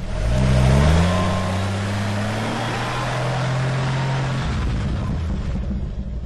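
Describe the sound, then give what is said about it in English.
A Jeep engine revs hard as it races across a river where the road has washed out, after several days of rain. Its pitch climbs in the first second, then holds a steady droning growl beneath a loud, broad rush of splashing water that eases off near the end. “And then, across the river, a Jeep comes racing up fast and stops. Uh-oh, he's going to give it a shot.”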